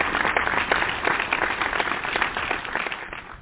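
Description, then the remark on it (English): A church audience applauds steadily for a reverend, dense overlapping claps forming a continuous, moderately loud patter that holds its level for a few seconds without any talking. “So let's give her a round of applause, everybody.”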